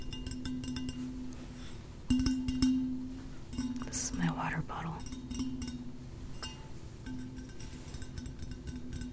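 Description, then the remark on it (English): Quick, irregular tapping as an ASMR trigger, with a glassy, clinking edge, soft and crisp, repeating in scattered bursts over a low steady hum, with faint whispery sounds in between. “Another ASMR trigger is like tapping.”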